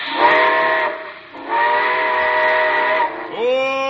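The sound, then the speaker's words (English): A steam train whistle sounds as the train is ready to pull out, in two long, loud blasts with a brief gap between them, followed by a short rising wail as the third blast begins, with a hiss of steam underneath. “All aboard! Well, it looks as though we're ready to pull out.”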